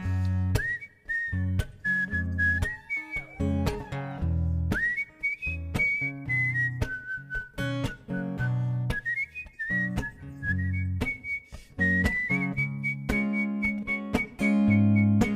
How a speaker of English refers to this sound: Whistle for you.